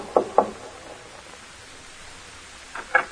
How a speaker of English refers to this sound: It was about a half an hour later when Northcott rapped on the door of Powell's house.